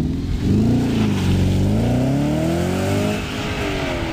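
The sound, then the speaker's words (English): An Audi R8 petrol sports car engine revs up and holds a loud, rising growl, its pitch sweeping upward then settling into a steady roar, with no talking over it. “Yeah, well, if you want some comparison, this is the Audi R8 that we featured a while back.”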